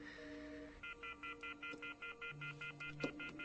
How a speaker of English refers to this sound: Great. He's got the phone off the hook now. Rejected again.